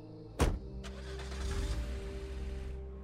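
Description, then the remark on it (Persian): A single sharp thump like a car door shutting, followed by a steady low engine hum and faint interior noise as people settle into a car; no one speaks. “سوار ماشین میشیم.”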